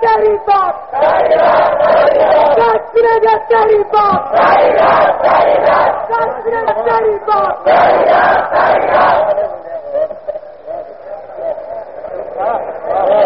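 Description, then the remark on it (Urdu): A large crowd chants a slogan in loud, rhythmic bursts of many voices shouting together, then the chanting thins and fades toward the end. “ٹھیک ہے بھائی, آپ کے نعرے سے معلوم ہو رہا ہے کہ آپ سست ہیں.”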